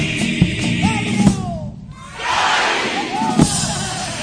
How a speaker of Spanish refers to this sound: Bueno, y el final, todo el público, todo el falla, gritando ¡Kai!, el grito de guerra del pillo. Un homenaje, ¿no?